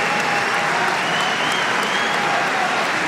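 A large tennis crowd at a match between Zverev and Dimonor, most of them standing, applauds steadily after a 39-shot rally: a dense, even roar of clapping that stays loud and unbroken for the whole few seconds, with no voices standing out.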